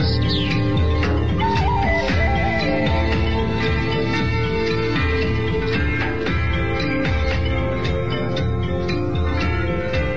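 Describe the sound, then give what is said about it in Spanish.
Small birds chirp and tweet in quick, scattered calls in a jungle, set against a dense, steady wash of background sound that continues throughout. “comenzando el viaje con esos pajaritos de fondo, entrando en una de esas muchas selvas donde has estado”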